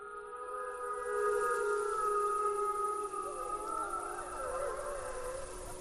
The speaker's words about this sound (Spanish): los lobos en vez de salir corriendo aullan, te rodean, aullan y cuando acaban de aullar se marchan tan tranquilos